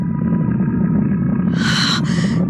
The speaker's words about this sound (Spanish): Ella se arrastra hasta pegar la cara contra la pared y mirar a través de las rendijas al hermoso tigre guardián que ruge nervioso y emocionado.